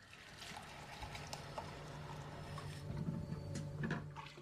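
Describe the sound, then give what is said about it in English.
Running water trickles and splashes steadily at a sink as someone washes the dishes, with occasional clinks and knocks of dishes and cupboard-like bumps, no voices. “Lil stands at the sink, cleaning the dishes.”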